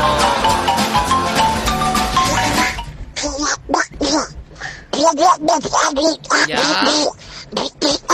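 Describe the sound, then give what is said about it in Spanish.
A person imitates Donald Duck's voice at a Sunday imitation festival, Animal Print edition, in a run of raspy, squawking bursts with choppy rhythm and pauses, following a stretch of loud, busy noise. “Parece que este pato Donald está angustiado.”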